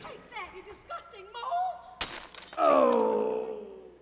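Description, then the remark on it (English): Voices murmur briefly, then a giant vase, taken up by one of a group of women, shatters in one sudden, bright crash, followed by a loud, drawn-out cry that slowly fades. “But eventually, realizing that in his case it is in a very vulnerable spot, one of them takes a giant vase and...”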